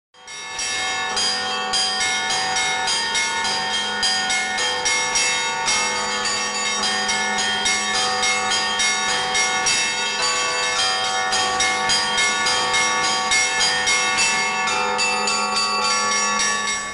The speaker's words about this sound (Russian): А по колокольному звону, это тоже часть моей, так сказать, души. Звон колокольный, он как-то он притягательный, он настолько очаровывает, он затрагивает какие-то струнки.